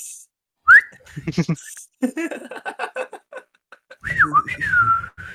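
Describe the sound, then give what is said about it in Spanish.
Someone whistles a few short, rising and falling notes, with talking and laughter between, then a longer sliding whistle near the end. “La clásica, cuando no sabes qué decir y chifleas.”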